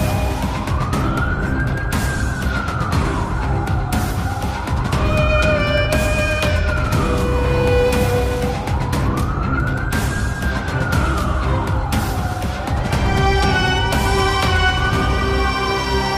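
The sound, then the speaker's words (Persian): A police car siren wails in slow, rising and falling sweeps, repeating about four times, loud and steady over a rumbling low engine and traffic noise, with no one talking. The police car is driving behind a truck. “صدای پلیس توجهش رو جلب میکنه. ماشین پلیس پشت سر کامیونه.”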